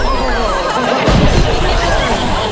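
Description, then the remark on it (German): A sparkling firework bursts in the sky with one sharp, loud boom partway through, over a steady hubbub of crowd chatter and faint whistling, crackling sparkle. “Da explodierte ein funkelndes Feuerwerk am Himmel und künstliche Sterne regneten herab.”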